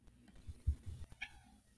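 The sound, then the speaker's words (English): A cat gives one short, high meow near the end, preceded by a few soft low thumps and shuffles; fairly quiet, with no one talking. “Meow.”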